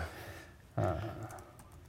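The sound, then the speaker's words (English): A few soft, irregular key clicks as a password is typed on a computer keyboard with a touchpad in the middle, fairly quiet, over a low background hum with a brief muffled thump near the start. “Oh, I can't use this keyboard because there's a touchpad in the middle.”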